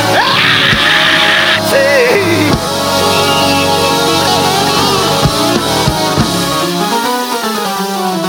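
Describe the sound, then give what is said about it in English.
A large crowd erupts in loud, sustained screaming, yelling and cheering, a dense wall of many voices filling the space for several seconds before easing slightly. “If you got better, scream.”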